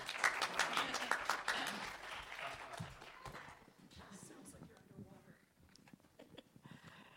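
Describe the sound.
A crowd claps in a dense burst of applause that starts strong and gradually thins out, with scattered claps and murmuring voices continuing as it fades.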